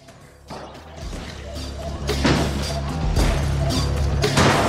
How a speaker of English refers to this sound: More Turkish's arcade being smashed up.